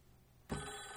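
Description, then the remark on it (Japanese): A telephone starts ringing abruptly after a brief quiet moment, its bright, steady ring sounding fairly loud through to the end, with no voices. “あ、なんか電話のようですね。”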